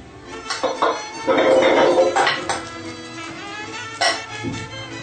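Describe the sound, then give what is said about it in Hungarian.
Metallic clatter and clinks of a cooking pot of potatoes in water being handled and set down on a stove to boil, with a few sharp knocks and a softer scrape between them. “A burgonyát feltesszük vízben főni.”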